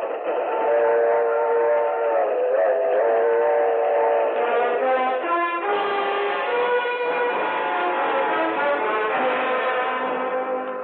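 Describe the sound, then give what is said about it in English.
A loud train whistle holds a long, steady multi-toned chord for the whole stretch, shifting pitch slightly partway through, with no voices. “With his wife, Mabel, he boards a train to take his cause to the Shrine Temples across the nation.”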